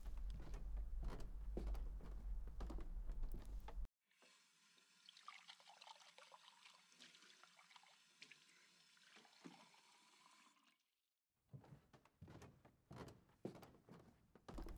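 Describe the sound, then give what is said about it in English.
Water runs steadily for about six seconds, a moderately loud pouring trickle like filling a glass from a tap as water is fetched for an unwell person, with other muffled noises before and after it. “Let me grab you some water, okay?”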